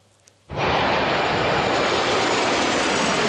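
After a brief near-silence, a loud roar of jets bursts in and holds steady, a broad rushing engine noise as the eleven-jet Italian Frecce Tricolori aerobatic formation flies low over Kecskemét airport in Hungary during the Kecskemét International Air Show.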